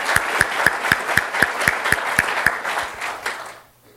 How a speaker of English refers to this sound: So, yes, let's give them a round of applause.